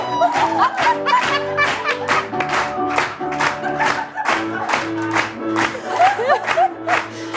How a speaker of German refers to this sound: Ja, wir haben einen neuen Jingle. Ich liebe ihn. Gefällt er euch? Ja! Ah, da kommt er nochmal. Sauber, Baby.